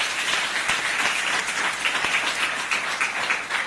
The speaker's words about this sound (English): Shall we give them a round of applause?